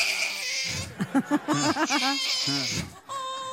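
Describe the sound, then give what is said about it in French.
A baby on a plane cries in a string of short, strained wails that rise into longer, high-pitched howls, fairly loud over a steady background hiss. “Tu m'étonnes que j'ai pas d'enfant, je passe ma vie dans les transports à les entendre hurler, ça donne pas envie d'en avoir la même chose à la maison.”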